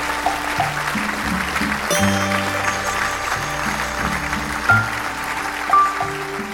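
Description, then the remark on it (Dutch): A crowd applauds steadily for several seconds after a story told on stage, a dense even patter of many hands clapping, with soft low musical tones playing underneath. “APPLAUS.”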